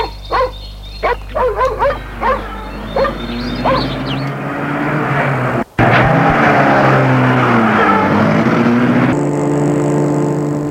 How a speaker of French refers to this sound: Le père Ducret les fait rentrer dans sa voiture. Il entre lui-même et la met en route.